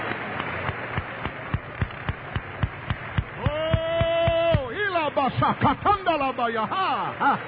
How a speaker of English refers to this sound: Let's give Jesus a good hand clap. Thank God.